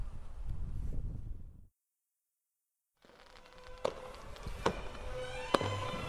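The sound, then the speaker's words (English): Fireworks going off outdoors at a fireworks display at dusk, with a lot of smoke: after a rumbling start and a brief silence, three sharp cracking bangs ring out at irregular intervals over a steady hiss and crackle. “Got fireworks going on, and it's just fantastic.”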